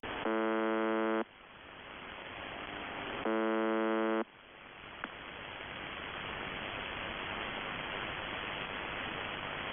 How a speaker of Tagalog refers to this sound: Ganun lang yung tunog niya. Buzzer, no? Parang buzzer. Oo. Nagbabuzz lang siya.